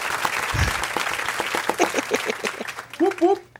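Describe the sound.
A burst of crowd applause plays as a sound effect, a dense, steady patter of many hands clapping, while a voice speaks over it and briefly thanks someone toward the end.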